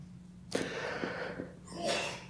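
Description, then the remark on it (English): A sudden, sharp sneeze bursts out, followed by a rough, breathy exhale as the air rushes out, all over a steady low hum. “Bless you.”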